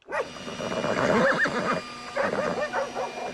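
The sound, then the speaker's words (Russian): Horses neigh and whinny in a busy, overlapping burst of wavering cries, loud, with a brief lull before another round of calls near the end, as horses are harnessed to pull a bulldozer out of a river. “Впряглись снеговики, лошади, собаки.”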